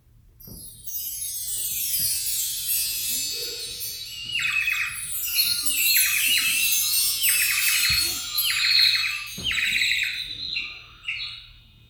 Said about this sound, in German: Die Sonne kommt hervor und die Vögel zwitschern.